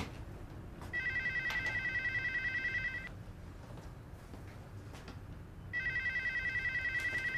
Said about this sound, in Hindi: Phone नहीं उठाओगी? नहीं, रहने दो, कोई बोलता नहीं है, रॉन्ग नंबर है।